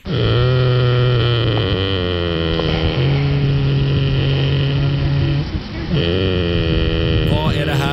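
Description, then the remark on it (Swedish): A goat snoring loudly in long, droning, buzzy breaths that shift pitch from one breath to the next, with a brief dip before the final breath. No one speaks. “Det är faktiskt en get. En get. Som de är väldigt snarkar.”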